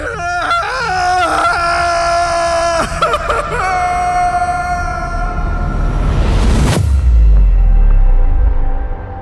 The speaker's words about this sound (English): And all I could do was scream.